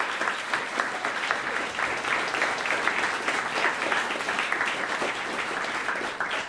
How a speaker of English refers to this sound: You may applaud.